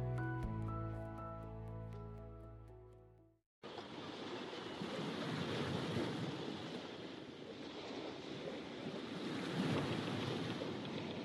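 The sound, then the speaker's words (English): A brief musical passage fades out, then a steady roar of ocean waves breaking on shore takes over, loud, with gentle swells in the wash and no voices. “Do you mind if I talk for a while about something I love? About water and the ocean.”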